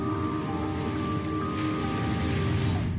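Ocean waves from the Magic Beach trailer splash and wash in a steady, continuous rush, evenly loud throughout, with a faint steady hum beneath and no voices.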